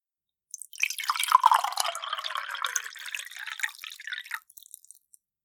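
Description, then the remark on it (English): Water pours steadily into a cup for about four seconds, a continuous splashing trickle that starts abruptly and tapers off with a few final drips. No one speaks. “And here I am again, with your cup of water. Let me pour it for you.”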